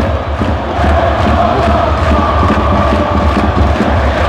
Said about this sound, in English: As you can hear, the crowd is bouncing in Salerno.